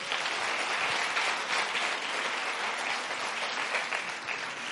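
An audience claps steadily for a participant for several seconds, a dense, even patter of many hands with no talking over it, holding a fairly constant loudness throughout.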